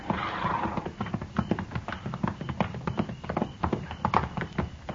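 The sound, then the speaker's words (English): Several horses' hooves clip-clop steadily at a walking pace as riders approach a hunter's camp when it is almost dark, a dense overlapping rhythm of sharp knocks, with no talking over it. “We just gonna ride right up to him, Mr.”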